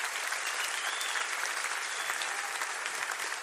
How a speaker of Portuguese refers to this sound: Uma salva de palmas pras nossas mães.